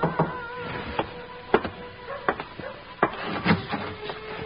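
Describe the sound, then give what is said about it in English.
Several sharp wooden knocks on a door land at an uneven pace over a low steady hum, some struck harder than others, with no voices. “Feelings that made me glad to find out who it was that knocked at my door.”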